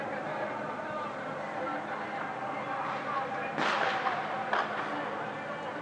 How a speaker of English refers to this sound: So these are shots in the air, just a matter of celebrating the victory, and it is a victory.